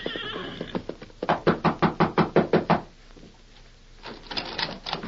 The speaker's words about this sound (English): Sometime later, a grim-faced rider dressed in the gray denim of a prisoner flung himself from the back of an exhausted horse and knocked at the rear door of the Rainbow Cafe.